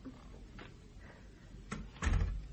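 A door is pushed shut: a couple of faint knocks and scrapes, then a heavier, low thud as it closes, with no one speaking.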